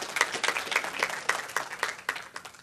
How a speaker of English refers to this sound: So home folks, can we give all of our guests a big round of applause and thank them for being here today?